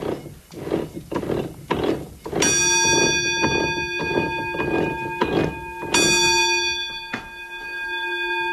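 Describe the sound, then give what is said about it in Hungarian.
A warning bell on the roller mill of a watermill, which rings when the mill runs empty, rings out twice with a bright, sustained metallic tone, each strike ringing on for seconds, over a steady rhythmic wooden clatter and knocking of mill machinery. “A malomnak a hengerszékein van egy csengő, ugye, és az, amikor üresen ment a malom, az csengetett.”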